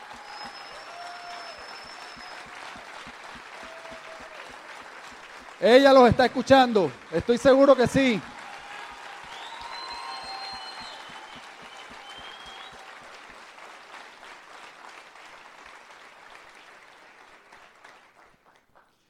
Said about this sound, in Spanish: Fuerte aplauso para Carmen, bien merecido, bien merecido.